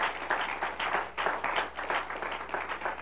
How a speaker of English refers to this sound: Oh, can we give the Lord a hand clap of praise right now?